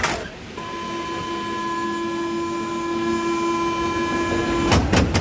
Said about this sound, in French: Là, on est dans le métro